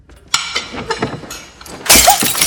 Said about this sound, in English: She hurls a glass at the door next to her.